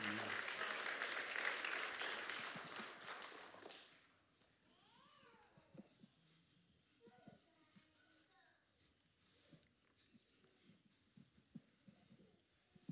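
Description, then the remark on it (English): An audience bursts into loud, sustained applause for a few seconds, affirming a woman pastor, then the clapping quickly fades into quiet with faint, scattered voices and small sounds. “If you affirm that with us, would you just give us a round, or give her a round of applause and say, we affirm, and lend your amen.”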